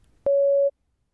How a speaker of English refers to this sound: Please prepare your answer after the beep.